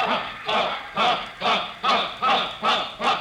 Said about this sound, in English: Hey, listen to the cheering section.